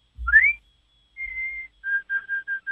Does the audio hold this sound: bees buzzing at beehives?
no